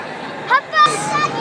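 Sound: crowd chatter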